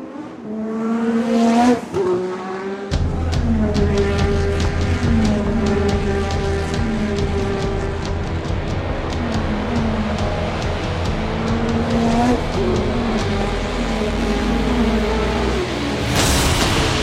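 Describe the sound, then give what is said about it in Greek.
A short sports news jingle built from racing car sounds, signalling the start of the sports news segment: engines whine and rev in rising and falling pitch sweeps over a steady roaring hiss, closing with a sudden bright burst of noise. “Άκουσε πρώτη φορά το ηχητικό που μας ενημερώνει, μας ειδοποιεί ότι πάμε στην αθλητική ειδησιογραφία.”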